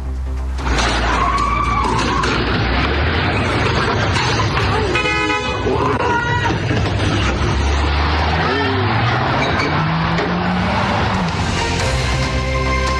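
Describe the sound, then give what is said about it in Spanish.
A car engine roars loudly as a woman drives her vehicle backward at high speed, crashing into thieves to stop them stealing her car and then hitting the front of another house, with screeching tires and a few sharp horn blasts amid a continuous, chaotic din, and voices shouting underneath. “la reacción de esta mujer echando marcha atrás su vehículo, chocando a los ladrones y evitando que le robaran su automóvil estos delincuentes.”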